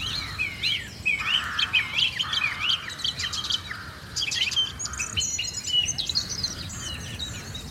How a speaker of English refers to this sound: At the start of the programme, we played you a clip of a bird that I've been trying to identify. Well, quite a lot of you got it right, quite a lot of you got it wrong. But here's a wee clip of it just now to see if you can know what it is.